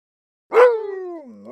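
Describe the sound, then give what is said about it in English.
A single loud dog bark that starts sharply and stretches into a drawn-out, falling tone before fading, with no voices around it. “Come on, Rex. It's time for your walk.”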